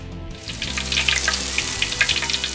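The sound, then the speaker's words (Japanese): Steady crackling sizzle of food deep-frying in hot oil in a home kitchen, a dense hiss with scattered pops and bubbling, fairly loud, with a low background hum and no talking. “それじゃ俺はどんどん上げていくから、師匠はそこのテーブルにお皿を並べて油取り用の和紙を敷いといてもらえる？”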